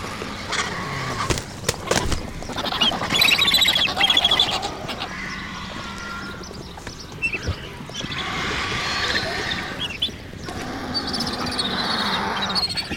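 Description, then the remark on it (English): Vultures, joined by two black vultures, screech at a carcass, a dense, continuous chorus of harsh, raspy squawks and squeals that overlap in bursts throughout, with no one speaking. “This deafening shouting increases with the arrival of two black vultures.”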